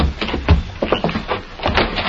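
A house door being opened, with a steady mechanical rattling and clattering that runs for about two seconds, moderately loud, with no voices.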